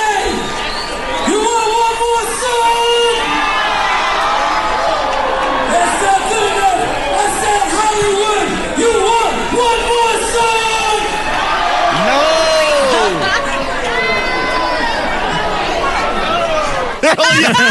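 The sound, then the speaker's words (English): A large concert crowd yells "no" loudly and continuously after being asked if they want to hear one more song, many voices overlapping into a sustained roar of shouting that barely lets up from start to finish. “They're all yelling, no!”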